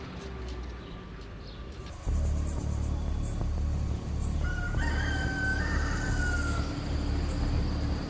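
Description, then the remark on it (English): Roosters crow before sunrise outside a Rainforest Alliance certified coffee farm in Chiapas, Mexico, a long rising cock-a-doodle-doo cutting through a steady low rumble of outdoor background noise, with no one speaking. “The roosters are crowing, so sun is about to come up.”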